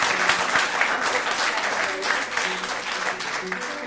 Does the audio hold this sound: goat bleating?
no